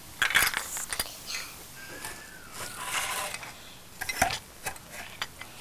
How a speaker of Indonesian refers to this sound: Saya mencuci piring. Piringnya sangat kotor.